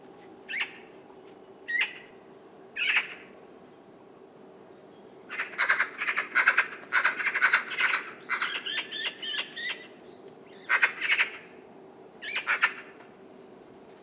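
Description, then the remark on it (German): A magpie's gurgling, chattering song: a few isolated harsh calls at first, then a dense run of rapid rattling notes mixed with brief whistles, fairly loud, with a steady low hum underneath. “Meist besteht der Gesang jedoch aus einem gurgelnden, bauchrednerischen Schwätzen mit Pfeiflauten.”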